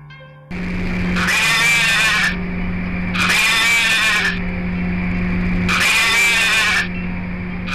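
A squeezed toy sheep plays its recorded bleat three times in a row, each a loud, buzzy, wavering baa lasting about a second, over a steady low mechanical hum.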